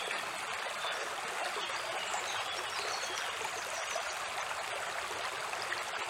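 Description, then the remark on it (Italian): A river flows steadily, a continuous bright rushing and babbling of water with no pauses or voices, even in loudness from start to finish. “Oggi molti, essendo un weekend particolare con il ponte festivo, molti sono andati in montagna, alcuni in collina, gita fuori porta, qualcuno al mare, io al fiume.”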